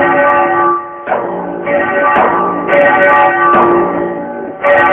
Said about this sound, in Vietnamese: Các vị sư phụ phái Thiếu Lâm chuyên lo kéo chuông đánh trống, xin hãy giống chuông đánh trống lên cho.